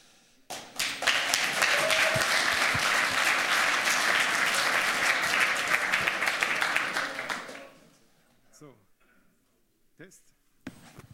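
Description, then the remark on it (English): An audience applauds steadily to welcome the speakers of a talk on steganography in auditive signals, a dense wash of clapping lasting several seconds before fading out, followed by a few scattered sounds and brief voices. “And I think it's a very interesting topic, and now give them a warm applause.”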